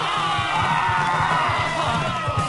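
A large audience cheers and claps in a dense, continuous roar for a couple of seconds, with a steady low rhythmic thumping of drums pulsing underneath, as Animal and another drummer play the final number of the Muppet salute to motherhood.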